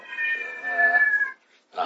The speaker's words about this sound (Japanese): あとはちょっと、まあ、ご、猫さんの音声入ってますね。